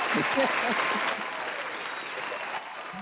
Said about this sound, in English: And well, we're going to give everyone applause, and I'm going to take my bow.